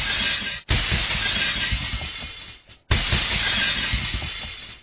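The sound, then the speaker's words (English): A car crashing into a tree with glass shattering: two loud smashing impacts, each followed by a long rattling wash of breaking debris. No one speaks. “He's just crashed his car into a tree.”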